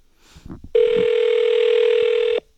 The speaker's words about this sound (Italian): Proviamo subito a telefonare ad una di queste due persone che oggi festeggia il compleanno. Sentiamo. Oh, sta squillando.